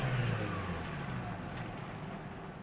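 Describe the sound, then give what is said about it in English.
A car speeds past going way too fast, with a steady low engine rumble and broad road noise, fading slightly as it moves away over a couple of seconds. “Suddenly, a car sped by, going way too fast.”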